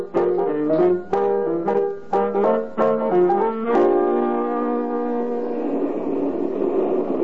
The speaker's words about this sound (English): Oh, here comes the bus. Well, thank goodness.